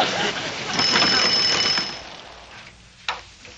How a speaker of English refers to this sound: Well, it rang. Yeah, it rang, but it might have been ringing in Paris for all you know. Try it again. Heard one ring, you heard them all.